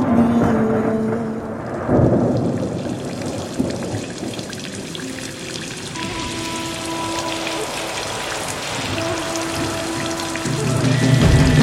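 Steady rain falls throughout, a dense, continuous patter at moderate loudness, with a few soft sustained tones lingering in the background and no voices.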